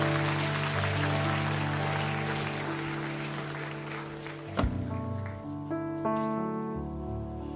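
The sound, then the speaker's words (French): A church audience at a morning service claps steadily for several seconds to acclaim the Lord, over sustained keyboard chords, then the applause stops abruptly after a sharp thump, leaving the held chords playing on softly. “Est-ce que c'est le bon moment juste pour acclamer encore le Seigneur et l'applaudir pour eux ?”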